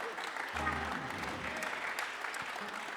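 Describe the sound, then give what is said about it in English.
An audience claps steadily throughout, a dense crackle of many hands at moderate volume, with a low sustained musical tone swelling briefly beneath the applause. “Clap your hands.”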